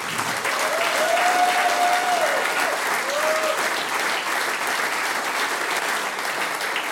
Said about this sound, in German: Fünf fesche Damen und ein charmanter Herr an der Harmonika. Applaus für die Ulterweiler-Musik.